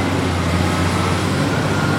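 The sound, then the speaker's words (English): A lorry's engine rumbles steadily as it drops a search party off at a stone marker out of town: a low droning hum with broad road noise that holds at an even level throughout, with no voices. “then a lorry dropped us off at a stone marker out of town.”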